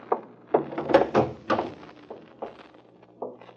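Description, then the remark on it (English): A latch on an apartment's back door, which leads from the kitchen, rattles and clacks several times, a quick irregular series of metallic knocks and thunks as the door is tried and jiggled; the door is latched from the inside. “Oh, the back door was latched, so...”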